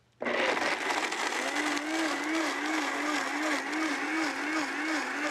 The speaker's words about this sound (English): Basically just cashew nuts, so probably around about half a cup. Quarter to half a cup, and I'm going to add a little bit of water, probably around about half a cup, and just blend it up.